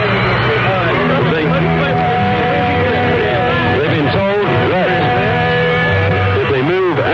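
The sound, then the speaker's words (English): A large concert crowd at Cleveland Stadium roars loudly and continuously, a dense wash of cheering voices that swells and wavers, with sustained musical tones threaded through the din. “And the crowd are roaring, you can hear them.”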